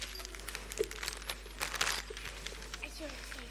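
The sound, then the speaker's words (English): Irregular paper crinkling and rustling as the first layer of a wrapped parcel is pulled open, with short bursts of crackle over a few seconds and faint background murmur. “Brilliant unwrapping, thank you.”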